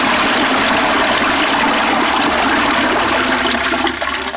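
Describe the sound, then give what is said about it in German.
Loud, steady rush of flowing river water as a man with a staff, carrying a child on his shoulder, wades into it, continuous for the whole stretch, a dense churning hiss with no voices and no clear break. “Er griff einen Stab und schritt in das fließende Wasser.”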